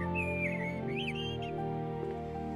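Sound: blackbird singing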